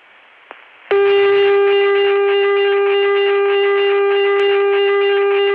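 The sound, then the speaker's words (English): After a moment of faint line hiss and a click, a loud telephone dial tone reached through a touch-tone access on the 480 PDX starts and holds steady, harshly distorted by a bad connection, buzzy with gritty overtones throughout. “You can touch-tone into that, and the call will go through as fast as possible, but the connection is so distorted that the dial tone actually...”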